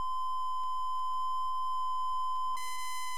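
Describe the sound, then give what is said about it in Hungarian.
A steady synthesizer triangle-wave tone holds one pitch throughout, pure and slightly hollow with faint upper overtones. Toward the end it turns a bit brighter and buzzier. “Háromszög.”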